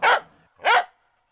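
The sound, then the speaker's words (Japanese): Two loud dog barks, evenly spaced about half a second apart, each sharp and bright with a short tail, then silence, forming the jingle of the segment "ソワッチのココホレワンワン". Nobody speaks. “ソワッチのココホレワンワン。”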